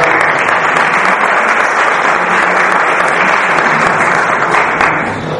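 An audience applauds steadily for several seconds, a dense, even wash of many hands clapping at constant loudness, tapering off slightly at the very end.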